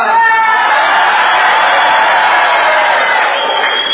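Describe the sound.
An audience yells together in a loud, sustained roar, many voices blending into one continuous shout that holds steady for several seconds before tapering slightly at the end.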